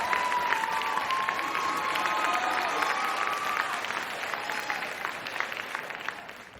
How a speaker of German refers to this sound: Auf Platz 1, das Coronavirus-Update mit Christian Drosten von NDR Info. Applaus!